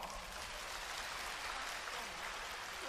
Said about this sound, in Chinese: 鼓掌。